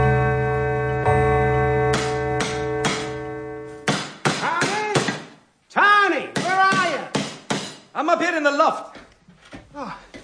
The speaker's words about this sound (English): What are you knocking a hole in the roof for? So that I can see the stars.